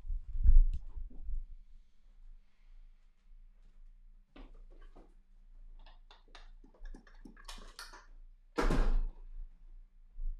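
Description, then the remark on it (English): A chair is slammed with a heavy thud, followed by scattered knocks and clattering, then another loud crashing impact near the end. “I hope that fucking chair broke. I hope it broke.”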